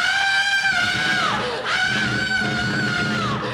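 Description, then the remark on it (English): A man's voice imitates girls screaming while playing volleyball at a state park in Peoria: two long, sustained, loud, high-pitched shrieks, each held for over a second with a brief break between them. “And you go over and watch the girls play volleyball, right? And they just scream.”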